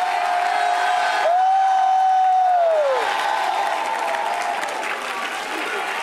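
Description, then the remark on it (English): An audience at a church service bursts into loud, sustained clapping for about ten seconds, a dense wash of applause with scattered cheers, while a steady organ or keyboard tone holds underneath and then bends downward. “For 10 seconds, let's clap like we believe that.”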